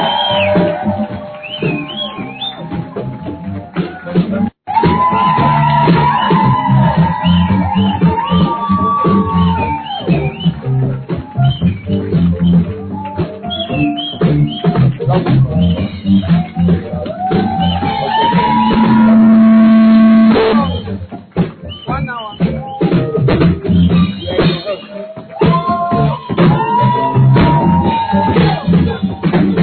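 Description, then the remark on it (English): A standing audience cheers loudly and without pause, with shouts, high whistles and sustained cries rising over a dense wash of clapping for the whole half minute, giving a shout of honor to God as it welcomes Bishop Dag and Lady Reverend Adelaide. “But by the grace of God, I said, by the grace of God, standing to your feet with a shout of honor to God, shall we welcome?”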